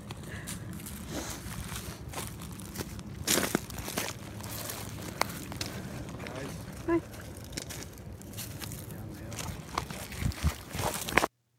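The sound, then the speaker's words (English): Footsteps crunch over a rocky path on a hill in an uneven rhythm, gravelly scrapes and a few sharper cracks standing out, with muffled voices quietly debating how to get down the hill. “It's just there's a rock crunching, but they're trying to debate how to get down the thing, down the hill.”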